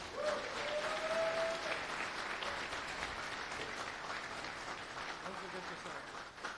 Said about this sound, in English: So first of all, an applause for organizing.